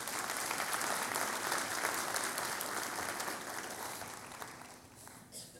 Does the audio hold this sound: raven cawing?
no